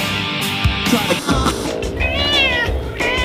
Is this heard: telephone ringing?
no